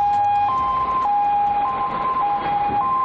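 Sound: ambulance siren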